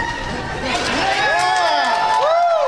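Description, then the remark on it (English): A crowd cheers steadily, loud throughout, with many overlapping voices and a few high, swooping whoops rising above the din, as the crowd moves forward to apply for marriage licenses with Pulaski County Clerk Larry Crane in Arkansas. “As the crowd moved forward, Crane added this.”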